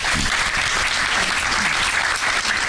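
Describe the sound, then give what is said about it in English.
Steady, sustained audience applause for Shane Black and Joel Silver as they walk down to the stage, a dense wash of many hands clapping at an even loudness throughout, with no voices standing out. “They have to keep the applause going a long time while you guys are walking down there.”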